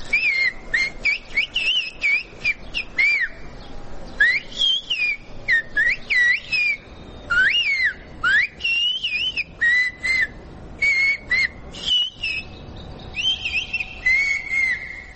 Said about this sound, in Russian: Вот образец языка свиста, который можно услышать в центре Анасиса на выставке «Боги и смертные Олимпа»